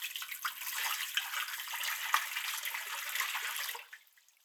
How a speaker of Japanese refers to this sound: 一度お湯で泡を流します。